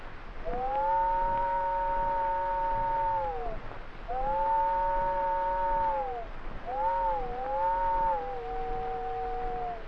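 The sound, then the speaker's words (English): A voice imitates an old train whistle as heard about a quarter mile down the track, with two long, steady, mid-pitched wails, then a shorter wavering call that bends up and down before trailing off. No talking. “I got down there just in time to hear the old whistle about a quarter mile down the track. Something like this.”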